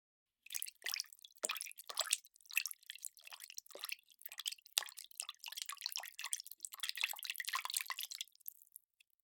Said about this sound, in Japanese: お水の音って人間が落ち着く音なんですって。